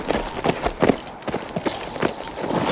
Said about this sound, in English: There's someone coming in! The Lone Rider was leading four horses into the yard.